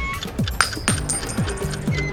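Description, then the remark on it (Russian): A coin tossed for heads or tails gives one sharp, bright metallic ping with a short high ring, heard over a steady, busy background of low rhythmic sounds. No one speaks. “Один к двум, орел или решка?”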